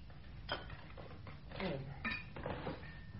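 Coffee being poured into cups amid light clinks and clatters of china and cutlery, a few short knocks and a brief gurgling stretch, all fairly quiet and without speech.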